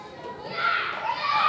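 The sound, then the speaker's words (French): Children shout and call out while playing outdoors on a group walk along a trail and riverbank rocks, a lively jumble of high-pitched voices that grows louder after the first moment and stays busy and overlapping to the end. “Ça suffit ! Vous arrêtez de crier, s'il vous plaît !”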